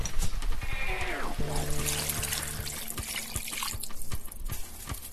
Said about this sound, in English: Alright, now we're going to add the chicken broth.